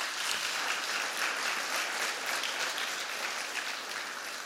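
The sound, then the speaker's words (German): An audience applauds the band steadily after it has sung during worship, a dense, continuous wash of many hands clapping at an even level for several seconds, with no voices standing out. “Und ich denke, auch der Band können wir mal einen richtig fetten Applaus für diese Zeit immer geben.”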